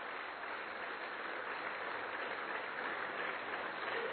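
A crowd claps steadily for several seconds, a dense, even wash of applause that holds at a constant level without pausing, heard from within the audience and with no voices over it.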